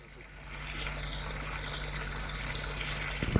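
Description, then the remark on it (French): A water tap is turned on in a bathroom as someone gets ready to take a shower, and water runs steadily with a broad, hissing rush that swells after the first half second and continues, with a low hum underneath and a faint knock near the end. “Ouvrir le robinet d'eau.”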